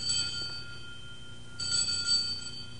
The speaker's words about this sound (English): The bell invites me. Hear it not, Duncan, for it is a knell that summons thee to heaven.